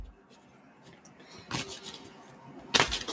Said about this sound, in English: So with your energy and intention now in these cards, I'm going to shuffle them one last time.